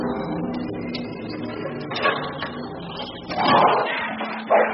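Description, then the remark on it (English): Dogs bark and snarl aggressively in a few harsh bursts over a dense, droning background, with the loudest outbursts near the end, at an aging, dark manor house hidden in a narrow valley. “Savage dogs.”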